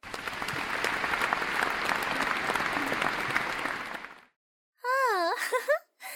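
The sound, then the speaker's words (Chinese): A dense crowd applauds a school principal as he is carried off the stage on a stretcher, many hands clapping steadily for about four seconds before cutting off. After a short silence, a voice lets out a wavering, moaning wail. “大家为校长顽强不屈的精神鼓掌。”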